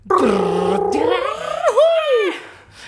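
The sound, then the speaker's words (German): A voice imitates a drum roll with a loud, rumbling rolled sound that swells and bends in pitch, then trails off into a rising, swooping vocal flourish. “Sollen wir Trommelwirbel machen?”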